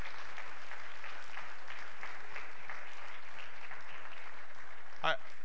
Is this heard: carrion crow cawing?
no